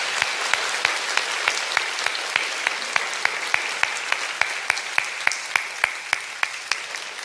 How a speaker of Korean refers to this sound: 우리 주님께 다시 한번 영광의 박수 올려드리겠습니다.